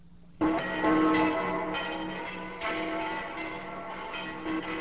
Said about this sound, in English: Those bells. It must be Christmas Day.